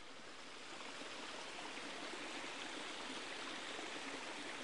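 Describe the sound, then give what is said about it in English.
A fast-flowing stream at Hackfall rushes steadily after heavy rain, a dense, continuous wash of water noise with no pauses or voices, full and rough; the stream comes down from the bottom of a 40-foot waterfall. “With all this rain, the streams that run down through Hackfall are really flowing at quite a pace today.”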